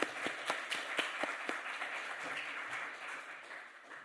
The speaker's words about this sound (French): J'ai envie d'applaudir, je ne sais pas si c'est le cas pour vous, mais il faut quand même applaudir.